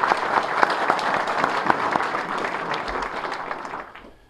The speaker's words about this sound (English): So I want to thank both of those gentlemen, and let's give them both another round of applause. I really appreciate it.